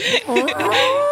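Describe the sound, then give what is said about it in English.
A person mimics a red deer stag's roar: one rough, bellowing vocal call just over a second long, wavering in pitch before settling into a steadier, drawn-out tone, loud and alone. “But anyways, the stags roar instead of bugle like our elk, you know, but they actually roar.”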